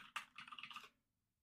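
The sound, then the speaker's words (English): A short, rapid burst of computer keyboard typing, about seven or eight crisp clicky keystrokes in under a second, then silence. Moderately loud, with no voices. “You're going to hear some typing right now.”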